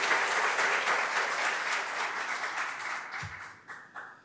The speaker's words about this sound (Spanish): a quien pido que se ponga de pie, por favor, y le rendimos ahí el aplauso. Felicidades.